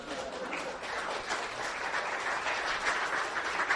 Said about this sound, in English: Y'all, go on. Give her a cheer.